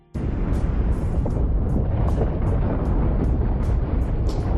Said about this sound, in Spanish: Lo escuchó mientras nadaba en las gélidas aguas de Groenlandia y aunque se parece al sonido de un trueno, es el ruido que se produce durante el desprendimiento de un glaciar.